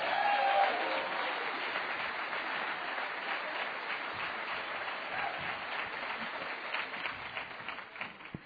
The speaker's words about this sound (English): Let's give her a real warm applause.